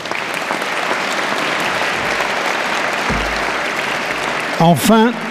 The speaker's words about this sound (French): Le troisième prix a été attribué à Liliane Coquillot, qui est absent, mais que je vous demande d'applaudir.